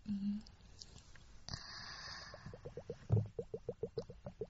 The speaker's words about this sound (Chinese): 但我又不戴耳机，他听不到我咕咚咕咚咕咚。